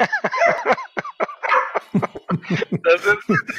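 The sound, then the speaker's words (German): A small dog, the agency's guard dog, barks in a rapid, excited series of sharp, loud yaps, with many short bursts packed tightly together and no clear speech. “So, jetzt hat er mich gerade an der Tür geklingelt und das ist unser kleiner Agenturwachhund hier.”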